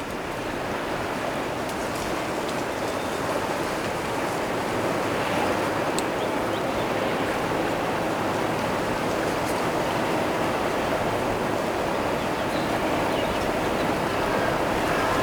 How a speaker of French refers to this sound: La clameur du vent. Du végétal.